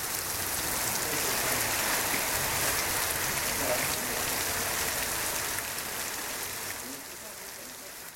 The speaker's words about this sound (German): Sintflutartig entleeren sich die dunklen Wolken über Nairobi. Die Mutter stellt Pfannen und Kübel vors Haus, um das Wasser zu sammeln.